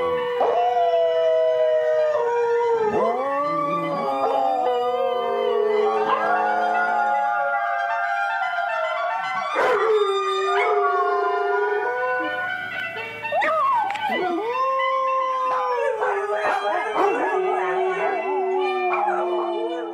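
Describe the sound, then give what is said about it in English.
Several dogs howl together in long, wavering, overlapping tones, rising and falling continuously for the whole stretch, loud, with occasional yips breaking through. “Reason enough for us to celebrate that apparently lots of dogs are Sunday morning fans, too.”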